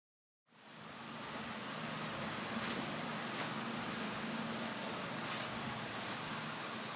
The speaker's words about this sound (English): There's a crisp breeze in the air, the sound of bees buzzing happily amongst the trees of an apple orchard.